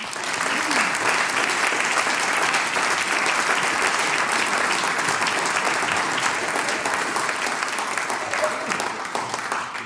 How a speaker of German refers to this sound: Ein Applaus für euch.